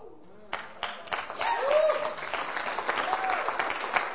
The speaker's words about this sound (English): Now, you clap, but they didn't do anything.